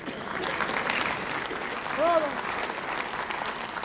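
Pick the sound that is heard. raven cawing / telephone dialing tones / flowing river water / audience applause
audience applause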